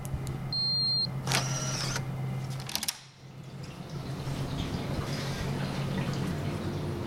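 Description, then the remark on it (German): Continuous watery bubbling and trickling from water tanks in which a research team grows sponges in a laboratory at the European Molecular Biology Laboratory, with a steady low mechanical hum, fairly loud, and a brief electric whine near the start. “So klingen Behälter mit Wasser, in denen das Team Schwämme im Labor für das Forschungsprojekt züchtet.”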